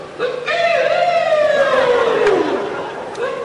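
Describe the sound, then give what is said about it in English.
Jackals howling: one loud, sustained howl slowly slides down in pitch over a couple of seconds, with fainter, higher wails overlapping it. No one speaks. “The howl, jackals howl like that.”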